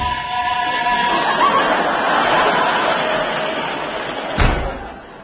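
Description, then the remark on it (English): A door is flung open with one sharp bang near the end, heard over a steady, loud rushing background noise with faint murmuring. “Quick, open that door.”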